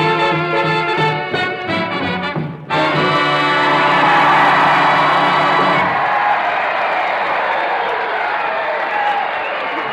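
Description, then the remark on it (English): A big band's brassy closing chord gives way at once to a roar of cheering and loud, sustained applause from an audience of combat veterans at Percy Jones Hospital Center, Battle Creek, Michigan, with whoops rising over dense clapping. “Those are the cheers, and that's the applause of tonight's audience.”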